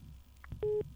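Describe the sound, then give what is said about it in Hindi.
A phone line's disconnect tone after a caller's call to a phone-in radio request programme drops: a few short electronic beeps in quick succession, fairly loud over a low background hum, with no one speaking. “रविंद्र जी के phone disconnect हो गए।”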